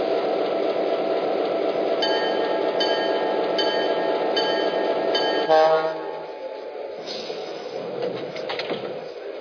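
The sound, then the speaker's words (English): Passenger train number 102, the City of San Francisco, arriving from San Francisco on track 1, pulls into a station with a loud, steady rumble and thin metallic squeals, then slows and settles into a quieter hum and clatter as it comes to a stop. “from San Francisco on track 1, train number 102, the city of San Francisco.”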